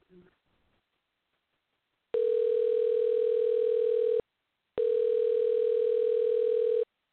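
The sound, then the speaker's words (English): A brief faint voice, then a telephone line tone while placing a call to the Chicago Police Department's Office of News Affairs: two long, steady, loud mid-pitched buzzing tones, each about two seconds, separated by a short pause. “We probably could call the governor's office.”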